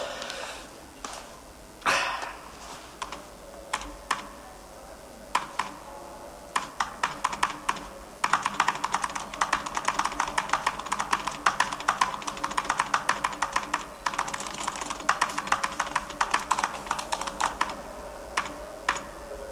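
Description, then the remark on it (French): Rapid clattering keystrokes on an old mechanical computer keyboard, starting sparse and building into dense, continuous typing, fairly loud, with no voices. “Le clavier en plein rétro.”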